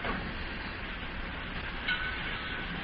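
Steady, dense rumble of a busy, crowded railroad terminal in Cincinnati with trains, a continuous hiss and clatter and one brief brighter clank near the end, with no voices.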